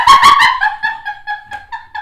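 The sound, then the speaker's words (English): A woman imitates a bird call: three loud, harsh squawks, then a run of quick, high warbling chirps that rise and fall in a steady, fluttering rhythm. “That is the best bird call ever.”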